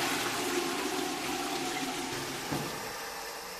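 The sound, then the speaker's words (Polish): A toilet flushes in an empty stall of an underground public restroom beside a parking lot, a steady loud rush of water for several seconds, with a brief gurgle midway and no voices. “W tej kabinie nikt nie był, to jest czysto. Ale wodę można spuścić, niech będzie świeżo.”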